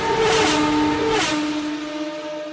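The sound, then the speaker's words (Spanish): A car engine revs loudly, its pitch climbing then dropping back as the throttle eases, with a sustained growl over about two and a half seconds and no voices. “Los motores a través de otros sentidos. Punto RPM.”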